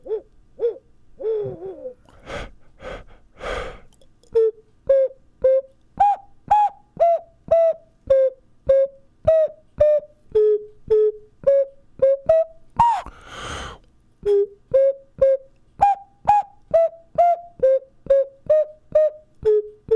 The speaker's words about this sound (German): Spielst du noch was auf der Nasenflöte? Die eine Pfeife ist. Eine Nasenpfeife.